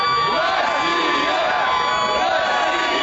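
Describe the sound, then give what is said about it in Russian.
A dense crowd of fans of the Russian national team cheers and shouts continuously on a central street of Moscow amid a stream of cars, celebrating victory after the captain lifted the cup, voices blending into a loud, steady roar with rising whoops. “Уже через несколько минут после того, как капитан российской сборной Алексей Морозов поднял над головой кубок, центральная улица Москвы превратилась в сплошной поток машин и болельщиков нашей команды.”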